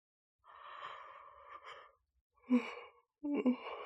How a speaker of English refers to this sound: God, I can't stop yawning. That must sound really obnoxious, huh? I promise I'm trying to keep my mouth closed, but it just opens up. I can't help but open my mouth.